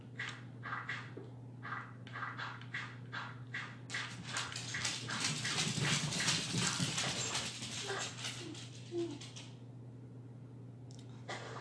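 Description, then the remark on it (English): Dogs whimper and yip in rapid, repeated bursts, building into a dense, excited cluster of high-pitched cries and barks before tapering off, over a steady low hum. “What is happening? Your dogs get, like, possessed.”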